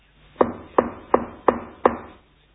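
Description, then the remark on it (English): Five firm knocks in a steady, even rhythm, each a sharp woody thud with a short ringing decay, clear with no voices over them. “Can you feel the knock?”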